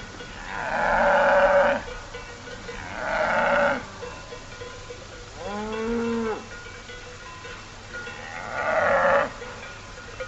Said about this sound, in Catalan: Sentireu unes esquelles perquè hi havia un ramat de vaques que interfereix una mica, però se sent clarament la brama del cèrvol, que és aquest crit, aquest udol dels mascles per atreure l'atenció de les femelles. Escoltem-lo.